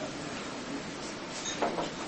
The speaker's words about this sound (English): Okay. See, it was dangerous to open the door.